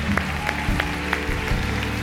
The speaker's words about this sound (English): Come on, let's give a round of applause to these guys.